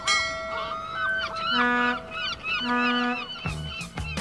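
A noisy chorus of over 100 parrots plus monkeys, guenons and porcupines aboard a ship from Africa at Liverpool, with overlapping squawks and honking cries that go on continuously and fairly loudly, ending in a few harsher bursts.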